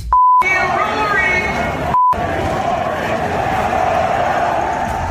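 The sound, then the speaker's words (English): A large crowd at a Ryder Cup golf event chants "F you, Rory" loudly and steadily, cut by two high-pitched censor bleeps: a longer one at the very start and a short one partway through, with the roar continuing underneath. “She got some of the crowd to chant "F you, Rory."”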